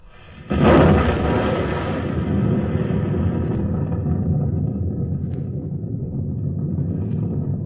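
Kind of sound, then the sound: impact, explosion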